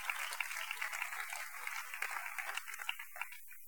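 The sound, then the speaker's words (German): An audience applauds with a dense, steady patter of many hands clapping, fairly soft overall, thinning slightly toward the end. No one speaks. “Applaus.”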